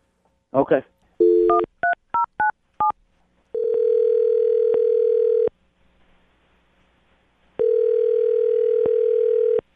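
A brief rustle, then a quick run of touch-tone keypad beeps, followed by two long, steady ringback tones separated by a pause as a phone call to a woman rings out on the line.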